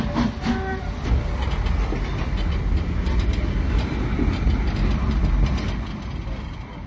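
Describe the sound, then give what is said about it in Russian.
A passenger train pulls away from a station, with a steady, loud rumble, wheels clattering rhythmically over the rails, with brief metallic squeals near the start and a continuous low mechanical roar throughout. “Поезд готов к отправлению.”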